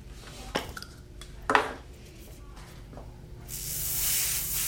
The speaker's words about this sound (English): I have to be careful the hairspray doesn't spray too strong because that'll straighten your hair too.